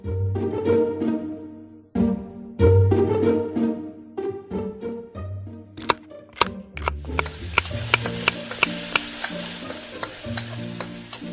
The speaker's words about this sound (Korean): 팬에 양파와 버터를 넣고 볶는다. 이 과정이 제일 중요한데 버터를 듬뿍 넣어 거의 죽 같은 질감이 돼야 한다.